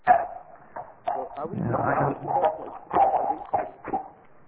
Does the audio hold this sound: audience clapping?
no